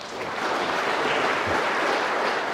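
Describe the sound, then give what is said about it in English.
A crowd applauds steadily, a dense wash of many hands clapping at once, holding an even, fairly loud level throughout with no voices over it. “Give him a clap.”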